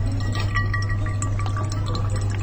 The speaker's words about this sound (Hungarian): Pálinka mentés? Ne, egy tudományos kísérletet végzünk, hogy a kávészűrő papírra szűr a pálinkát. De szigorúan tudományos céllal végezünk. Mert a voga belelőtte a dugót. És nem akarjátok a dugót meginni.